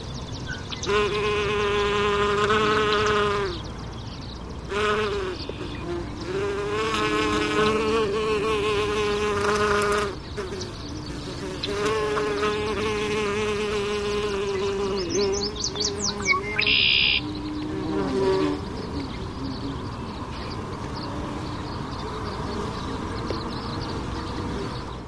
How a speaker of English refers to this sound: That was a bee or a wasp, I'm not sure, foraging on a milkweed plant. It was small, orange abdomen, stripes, not a bumblebee. Maybe 3/4 of a centimeter in length. The insect was about 1/3 of a meter from the microphone.